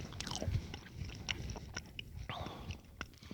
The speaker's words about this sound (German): Aber unendlich süß. Auch die Waffel schon, die so mit Zucker zersetzt, knuspert, ich meine, ist toll, aber selbst die Waffel.